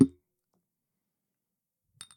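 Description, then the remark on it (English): Glasses clink together once in a toast, a brief bright ring with a short trailing chime near the end, preceded by a dull low knock and then near silence. “Cheers.”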